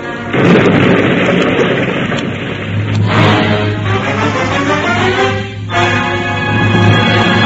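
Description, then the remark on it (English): A loud explosion, tied to the murder of the king, Darnley, bursts out and keeps roaring as a dense, rumbling blast that fills the whole stretch, with a steady low drone beneath it and no voices. “Didn't you hear that explosion?”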